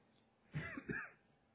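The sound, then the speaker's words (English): A brief throat clearing that breaks into a short cough, two quick rough bursts of about half a second, then quiet with no talking. “Please excuse an occasional cough.”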